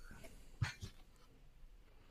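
A short, muffled cough of two quick bursts, the first stronger than the second, fairly quiet and isolated with no talking around it.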